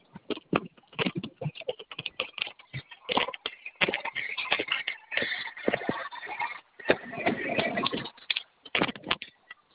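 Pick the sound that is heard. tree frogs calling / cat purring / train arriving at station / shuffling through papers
shuffling through papers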